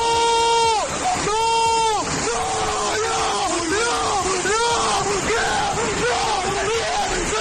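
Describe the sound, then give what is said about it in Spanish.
A 20-year-old man in Covisa, Toledo, screams desperately as floodwater bursts the doors of his house, knocks down a wall and floods the garden: long, strained, high-pitched cries at first, then repeated shorter anguished shouts, loud, over a noisy background. “Son los gritos desesperados, los gritos de impotencia de un joven de 20 años que ve como el agua revienta las puertas de su casa, tira un muro y desborda sin remedio el jardín y la vivienda.”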